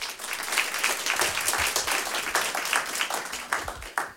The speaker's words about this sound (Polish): Także tutaj także o brawa poprosimy.